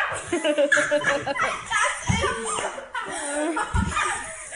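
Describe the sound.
A child's voice mimics a small dachshund's high yappy barks in a few short bursts, mixed with laughter and lively chatter from a group of sixth-grade schoolchildren imitating animal sounds.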